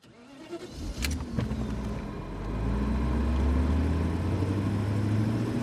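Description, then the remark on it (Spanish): A car engine cranks and catches with a couple of sharp clicks, then settles into a steady low rumble that builds as the vehicle pulls away, fairly loud. “Cuando el coche arrancó, la anciana se quitó la mascarilla.”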